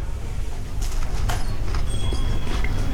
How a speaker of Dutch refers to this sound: Het is natuurlijk wel heel lekker smakken zo in die microfoon. Lekker kou in die microfoon, ja. Kun je dat horen?